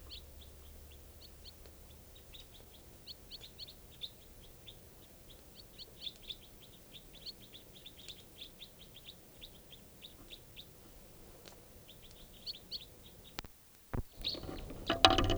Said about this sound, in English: Recording at 5:05 p.m. and there's a flock of wild crossbills here, about 8 birds up in the top of a tall lodgepole right above camp.